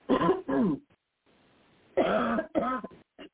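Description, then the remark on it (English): Someone clears their throat, two rough, guttural double bursts separated by a brief pause, followed by a tiny final rasp, with no speech. “Excuse me, I have to clear my throat.”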